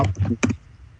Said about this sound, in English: Somebody's typing.